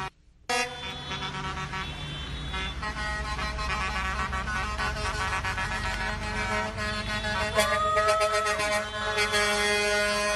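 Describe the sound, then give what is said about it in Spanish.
Loud air horns of trucks carrying humanitarian aid blare continuously as the trucks enter an aid collection centre, several honking over one another in long sustained blasts amid the low rumble of heavy vehicles, with no talking. “Bien, estamos viendo, el ruido que ustedes escuchan son los camiones con la ayuda humanitaria.”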